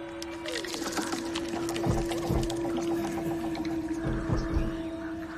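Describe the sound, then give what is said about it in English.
Muffled, churning water splashes and bubbles in irregular bursts, with a few heavier thumps, over a steady low mechanical hum, as someone is pulled underwater in the deep end of a pool and flails; no voices. “Something pulls her underwater.”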